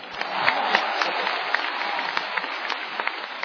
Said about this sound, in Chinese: 谢谢，谢谢朋友们的热情掌声， 哎，谢谢您的鼓励。 如果说您这个掌声再热烈点会更好。